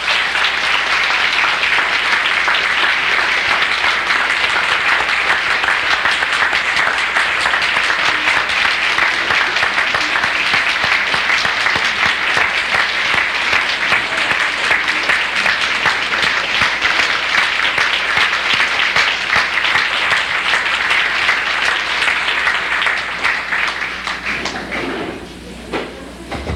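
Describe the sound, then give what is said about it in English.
Sustained loud applause from a large crowd, a dense steady clatter of many hands clapping for about twenty-five seconds before thinning out and fading at the end. “After that enormous and deserved applause, takes a brave man to make any correction.”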